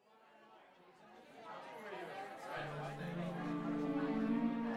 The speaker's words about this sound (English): Albert Snyder wove across the living room through the crowd of party guests